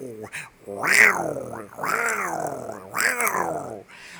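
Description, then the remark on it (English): A person's voice imitates a lion growling, three drawn-out rough roars in a row, loud, with brief pauses between them, evoking the "Lion" on a MacBook Pro. “And y'all, you know, it's got that lion.”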